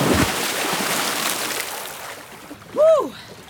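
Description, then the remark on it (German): Someone splashes into 16-degree lake water in the rain to cool off after a sauna session, with a broad rush of churning water, then a brief rising-and-falling yelp of a voice reacting to the chill. “Und dann kommt das, was einfach dazugehört: die Abkühlung im See.”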